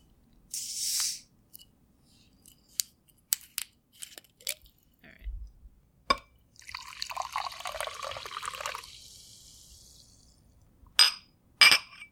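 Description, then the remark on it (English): A bottle cap of Vichy Catalan sparkling mineral water hisses open, followed by a few sharp clicks and a steady fizzy pour lasting a few seconds, then two bright glassy clinks. No one speaks. “So why don't we open up the Vichy Catalan.”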